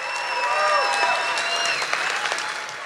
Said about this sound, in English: And let's get a round of applause as we go to break for people at home.